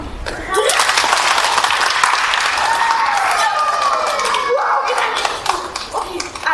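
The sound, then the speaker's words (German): At a stage performance, the audience claps together on a count of three, a dense, sustained burst of applause lasting several seconds, with scattered voices and faint tones threading through the clapping. “Alle vorstellen, auf 3 klatschen wir zusammen.”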